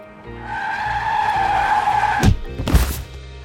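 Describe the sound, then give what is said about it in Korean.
Tires squeal in a long, high skid that builds for about two seconds in a traffic accident on a rainy summer day, then two sharp, loud crashing impacts follow in quick succession before the sound fades. “쫓아가던 난 그만 교통사고를 당해 며칠 동안 혼수 상태에 빠져 있었다.”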